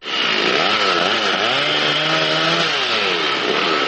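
A chainsaw, operated by a woman woodcutter from the village of Prebreze, runs loud and continuous near Blace in the Toplica District, its engine pitch rising and dipping in waves as it bites into wood, with a harsh buzzing rasp throughout and no voices.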